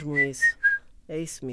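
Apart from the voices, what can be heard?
person whistling a tune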